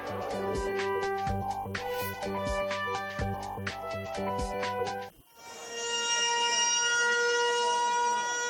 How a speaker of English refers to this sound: A 74-second siren was sounded across the West Bank at 12 noon local time, marking the 74 years that have passed since their Nakba, the catastrophe.